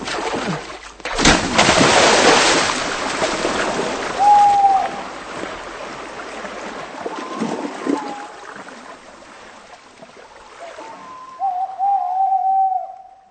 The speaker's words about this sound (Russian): Вы слышали выстрел. Совершено убийство.